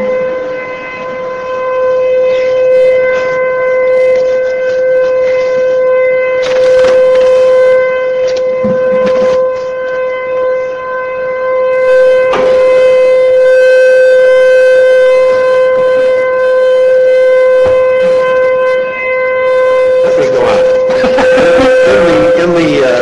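A civil defense siren sounds during its usual Wednesday noon test, holding one loud, steady, buzzing pitch without pause for the whole stretch, with occasional short crackly noise bursts on top.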